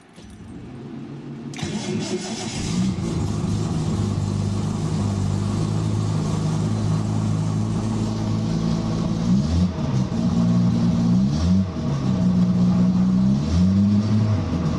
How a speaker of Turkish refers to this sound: Şimdi şöyle arabanın çalıştırma ile birlikte sesini açacağım. Başlatıyorum.